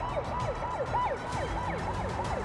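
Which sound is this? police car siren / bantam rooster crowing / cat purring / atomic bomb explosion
police car siren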